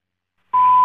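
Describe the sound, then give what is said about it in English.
Brief silence, then a phone call-waiting beep sounds on the line: one steady, loud electronic tone that begins abruptly and holds until the end, with no talking. “That was somebody else wanting to use a line, I think, on your phone.”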